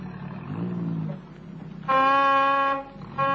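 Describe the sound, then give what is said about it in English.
A car engine rumbles low as it pulls up, followed by a long, loud blast of a car horn, a pause, then a second honk starting. “Oh, there's the car. Yes, sir, it sounds like them.”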